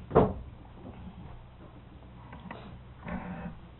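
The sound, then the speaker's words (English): A door is pushed open wider: a sharp clunk of the latch or handle, a few faint clicks, then a brief scraping creak as it swings. “Now, maybe you just open that door a little more.”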